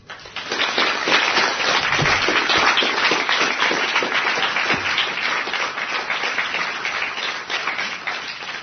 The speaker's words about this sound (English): Well, thank you all for giving me the correct answer, and here is a round of applause for all of you from Team Radio Psy.